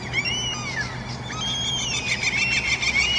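Harsh, strained gull screeches outside a bedroom window at 6:15 in the morning rise and fall in long overlapping wails, loud and continuous over a low steady background hum, with no talking.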